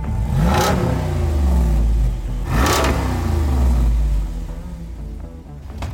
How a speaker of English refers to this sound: This roided up 392, it's enough to pull the sunglasses right off your head. This is a muscle car engine in a Jeep.